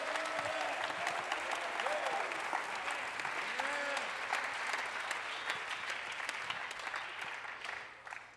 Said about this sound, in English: Somebody clap your hands all over.